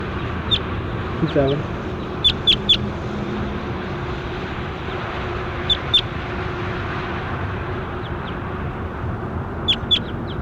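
A recorded bird, logged as bird 27, calls in short, high-pitched chirps, some single and some in quick clusters of two or three, over a steady, loud background rush of noise.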